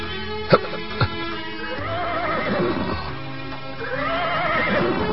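A horse lets out a long, wavering whinny while two sharp hoof clops ring out near the start, as its rider dismounts and walks slowly leading it along a hot street, followed by a continuous bed of ambient noise.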